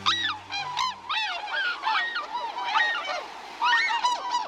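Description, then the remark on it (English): A flock of tundra swans calling as they fly overhead on a winter day, many overlapping high, whooping honks rising and falling in loud, continuous waves, with no talk. “As a flight of tundra swans passes overhead on a winter day, their voices swell in a kind of wild music.”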